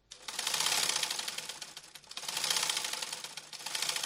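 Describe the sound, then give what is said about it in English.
A sewing machine, used in a United Nations training program beside a carpentry workshop in Cameroon, runs in three bursts of fast, steady mechanical clatter, moderately loud, with brief pauses between runs and no voices. “Just by Naomi's carpentry workshop, Therese Mami works on a sewing machine.”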